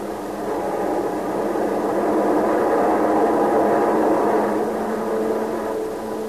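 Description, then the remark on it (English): A steady, droning roar of hundreds of Army Civilian Flying School propeller training planes passing overhead, swelling louder through the middle and easing off slightly at the end, with no voices. “And the skies from coast to coast echoed the roar of training planes, hundreds of them.”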